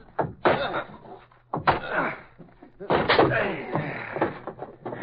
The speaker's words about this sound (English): Hey, I hear something. Somebody's yelling for help. Come on. In that closet. Break the door.